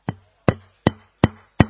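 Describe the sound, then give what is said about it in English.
Five firm knocks on a door in a steady, even rhythm, each a sharp hollow thud with a low resonant body, ringing briefly before the next. No voices. “Very often in his life, Maya comes at his knocking at the door.”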